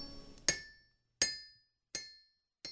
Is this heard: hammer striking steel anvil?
yes